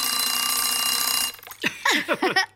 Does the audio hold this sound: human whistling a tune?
no